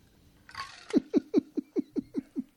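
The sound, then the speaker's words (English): A stomach rumbles: a short soft hiss, then a quick, evenly spaced run of about eight low gurgling pulses, each dipping slightly in pitch, heard alone with no talking. “Did you just hear my stomach rumble?”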